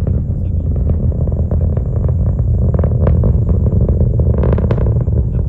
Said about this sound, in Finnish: Nestevetyä ja nestemäistä happea käyttävän suuren moottorin ärjyntään sekoittuu kahden kiinteää polttoainetta käyttävän apuraketin voimakas rätinä. Tuloksena on tällainen ääni.